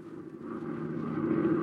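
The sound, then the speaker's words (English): A steady droning aeroplane engine hums with a low, buzzing tone that grows slightly louder over a couple of seconds, with no voices present. “We bring you now the sound of an aeroplane.”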